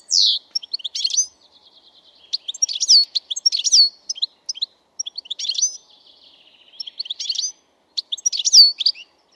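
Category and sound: bird, european goldfinch song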